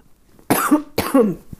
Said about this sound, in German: Entschuldigung, muss, glaube ich, gleich noch mal husten.